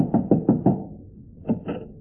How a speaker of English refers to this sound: I'll knock on the door.